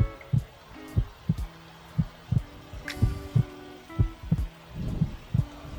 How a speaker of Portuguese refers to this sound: Você consegue escutar o seu coração?